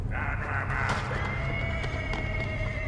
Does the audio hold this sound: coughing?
no